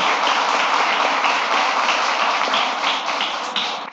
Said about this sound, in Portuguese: Então, eu queria uma salva de palmas por todos, né, que representam o Alcoólicos Anônimos